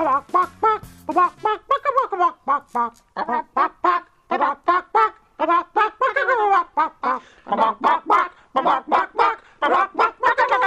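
Chickens cluck in a quick, steady rhythm that forms a bouncy melody, loud, the clucks pitched up and down like notes of a tune, continuing without pause, performing the Robot Chicken theme.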